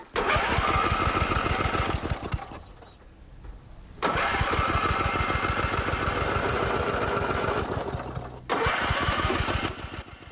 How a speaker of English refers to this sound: Satisfied, he adjusts his position and eagerly engages the starter motor.